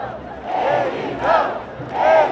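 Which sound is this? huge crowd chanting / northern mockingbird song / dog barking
huge crowd chanting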